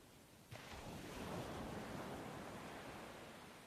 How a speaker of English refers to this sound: Ty stands at the edge of the lapping waves